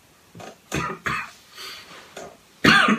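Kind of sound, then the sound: human body sound, repeated coughing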